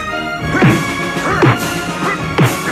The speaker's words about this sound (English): Punching the potato sacks. Awful. That's right. It's a drum. It is a drum. You're punching a freaking snare drum. Such bad sound design. I mean, it's so cheap and lame.